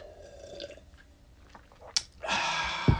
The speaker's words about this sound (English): Get a little sip here.